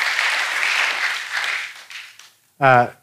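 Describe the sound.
An audience applauds with a dense, steady clatter of clapping that gradually thins out and fades, then after a brief pause a single voice speaks loudly for a moment.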